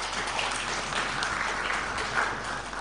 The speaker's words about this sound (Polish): Ja myślę, że duże brawa, bo 50 tysięcy.